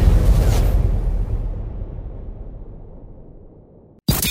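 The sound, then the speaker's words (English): An explosion sound effect bursts with a heavy low-end boom, then rumbles and fades slowly over several seconds before cutting off abruptly; a brief new sound starts right at the end. “Kaboom! You heard?”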